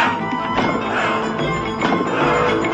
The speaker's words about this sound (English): The banging on the table of the others.